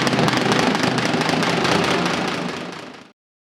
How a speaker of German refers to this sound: Die Ratschen ersetzen also zwischen Gründonnerstag und der Osternacht die Kirchenglocken. Wir haben es ja vorhin gehört, zumeist sind es Ministrantinnen und Ministranten, die mit diesen Holzinstrumenten zu den Gottesdiensten einladen.